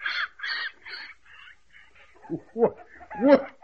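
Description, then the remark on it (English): Chickens cluck and squawk in a hen house, starting with three quick raspy calls, then a quieter pause before a few sharper, louder clucks near the end. No one speaks. “We got us a hen house full of eggs.”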